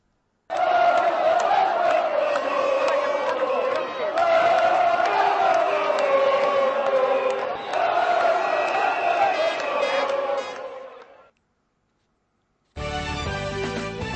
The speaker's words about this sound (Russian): В серии послематчевых пенальти итальянцы были точнее 5-3. Вы можете услышать, как ликуют итальянские болельщики.